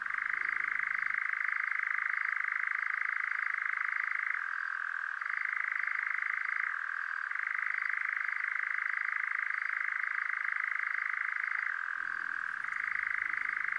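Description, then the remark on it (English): A bird's churring call runs almost without pause, a loud, steady, rattling trill that drops slightly in pitch a few times before rising back. No one speaks over it. “The sound is called churring, and let's listen to it.”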